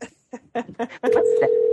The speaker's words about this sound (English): Oh, I hear an actual telephone call.